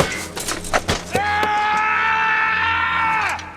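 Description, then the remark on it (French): A few sharp metallic clanks and thuds as actor Viggo Mortensen, playing Aragorn in The Lord of the Rings: The Two Towers, kicks a helmet, then he lets out a long, loud, sustained scream of real pain from two broken toes, holding steady about two seconds before breaking off. “Autre fun fact, dans le film Les Deux Tours, Aragorn frappe dans un casque et hurle pour de vrai.”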